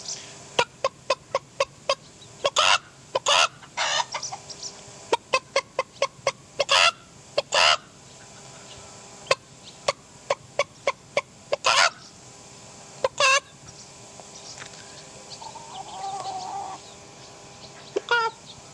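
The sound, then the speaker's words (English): Chickens with white tail feathers and light brown heads cluck in a steady run of short, sharp calls, some in quick clusters, with a softer, drawn-out squawk near the end, no proper crowing, and no talking. “They're not going to, we had a few little proper noises there, but no one's cock-a-doodle doing properly yet.”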